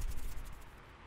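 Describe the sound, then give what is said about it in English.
Heavy rain pours at night in a steady, dense hiss with a low rumble underneath, easing slightly toward the end; no voices, just the continuous wash of rainfall. “I know the rain's pretty loud tonight, but...”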